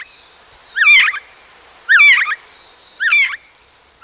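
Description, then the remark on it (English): Gray jay (whiskey jack) calls: three bright, warbling bursts spaced about a second apart, fairly loud, with quiet stillness between them and no voices. “The bird became Whiskey Jack, nickname for the gray jay.”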